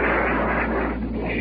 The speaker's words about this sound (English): Now planes are going overhead. That Navy was plenty low. Heavy fire from the naval warship. As well as 20-millimeter and 40-millimeter tracer.